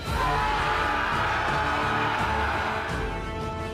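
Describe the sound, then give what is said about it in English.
A crowd of victorious Norman soldiers cheers from up a hill after defeating the Saxons, many voices whooping and yelling together in a loud, sustained roar that barely lets up before easing slightly at the end. “2 dismounted Norman knights, Gascon and Roland, hear the cheer of victory from their comrades up the hill.”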